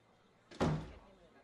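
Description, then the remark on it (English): A door swings shut with one solid, fairly loud thud, trailing off in a short rattle before it goes quiet again. “And he's heading for the door.”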